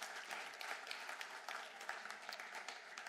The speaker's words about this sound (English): Would you like to come up, boys? Give them a round of applause and encourage them.